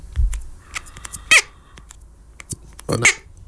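Two short, high-pitched squeaks, a bit over a second apart, with a honking, duck-like quality, separated by faint clicks and rustles. No one speaks.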